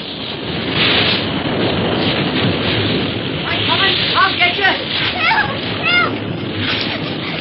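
A loud, steady roar of crashing ocean waves and churning, splashing water fills the whole stretch, with a few brief high-pitched cries rising over it partway through.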